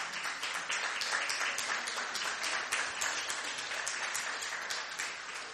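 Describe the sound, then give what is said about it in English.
A crowd at Last Adam Tabernacle claps steadily for several seconds for the worship team, many hands striking in a dense, continuous patter of applause with no voices standing out. “Give a very big hand clap to the worship team.”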